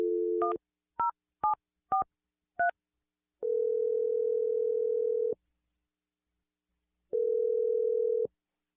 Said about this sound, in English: And I'll dial the number, let you make your awkward Tuesday phone call. You ready? Yeah. All right, here we go.